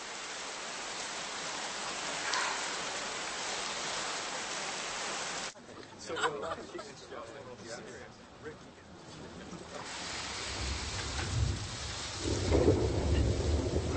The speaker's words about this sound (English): Still raining. Still raining.